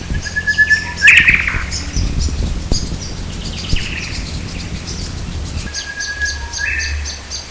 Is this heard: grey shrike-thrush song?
yes